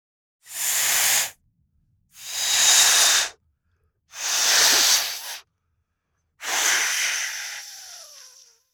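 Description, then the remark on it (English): A balloon is blown up with four strong, breathy puffs of air, each about a second long and separated by short pauses. The last puff trails off with a faint squeaky stretching sound. “Balloon blowing up.”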